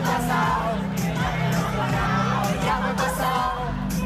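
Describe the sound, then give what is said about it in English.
A large concert crowd at the Primavera festival in Barcelona roars and sings along with a headlining Catalan artist, a dense wall of voices holding a melody loudly and continuously, with scattered shouts and whoops rising above it throughout. “She played the piano, danced on high heels, rode a scooter on stage, and even joined the crowd to let fans sing along.”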